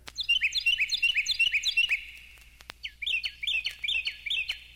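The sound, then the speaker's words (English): A Carolina wren sings loud, ringing phrases repeated in quick rolling series, two bursts separated by a short pause, clear with no other voices. “Carolina Wren”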